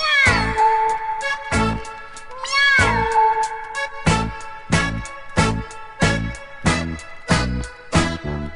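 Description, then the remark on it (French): Cat meows woven into an upbeat musical track, with rising, sliding meow tones over a steady rhythmic beat of regular percussive hits, fairly loud throughout, no talking. “Et musicalement, ça va miauler, mais essayez de deviner les titres.”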